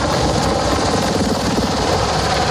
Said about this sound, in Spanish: Son las 2 de la mañana. Y en medio del caos, un grupo de 11 helicópteros entran a toda velocidad volando a baja altura en el espacio aéreo de Caracas.